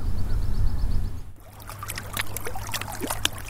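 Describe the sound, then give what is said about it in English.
A boat's low engine rumble gives way to lively water sloshing and splashing against the hull as it moves across a lake, with no voices. “Meanwhile, the lake is calling.”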